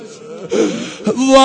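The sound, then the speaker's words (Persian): Women wail in mourning for Hussain, their voiced cries rising and falling in pitch, broken by gasping breaths, and swelling louder toward the end. “وای حالا که ناله مادر را بلند شد”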